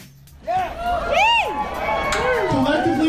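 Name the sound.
crowd cheering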